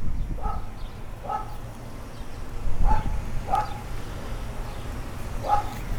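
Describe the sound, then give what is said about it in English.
A dog, Scout, lets out five short, muffled woofs and yips at uneven intervals over a low steady background rumble with no one talking. “The thoughts that my dog Scout was about to start barking, I was gonna was afraid of something, was he was gonna start going crazy, but luckily no.”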